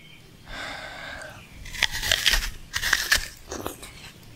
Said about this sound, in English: What is it? It's an apple. It's an apple! So, have a munch.